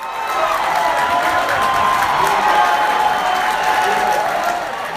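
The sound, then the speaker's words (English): A large crowd of Republicans at a GOP watch party in Dallas, Texas, cheers and shouts continuously as Texas delivers its electoral votes to Donald Trump, a dense roar of voices with scattered whoops and clapping, loud and sustained without a single clear speaker. “You could hear Republicans cheering across the state, including at a GOP watch party in Dallas.”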